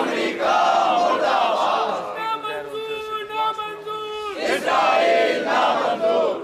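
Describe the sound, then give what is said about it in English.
A protest crowd in Pakistan, gathered after a deadly bomb blast in Quetta to protest the ongoing violence in the country, shouts loudly and continuously, with a single strained, sustained voice rising above it midway before the mass of voices surges back in full. “After the deadly bomb blast in Quetta, people have once again gathered here to protest over the ongoing violence in the country.”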